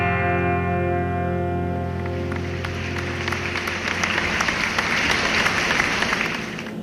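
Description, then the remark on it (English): A sustained musical chord fades out as applause from a giant studio audience swells in: dense, steady clapping with scattered sharp claps that holds loud for several seconds, then drops off abruptly. “That was some pretty great applause from our giant studio audience.”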